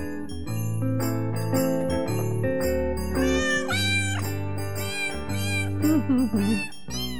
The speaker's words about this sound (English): I love those low mews. Sounds like my kitties too sometimes.